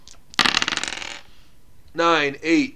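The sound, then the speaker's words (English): A quick burst of three ten-sided dice clattering and tumbling across a table, rolled for grenade damage in a tabletop game, a dense rattle that fades within a second, followed by a short stretch of someone talking. “Alright, so you pop a grenade in there. Yeah. Roll me 3d10.”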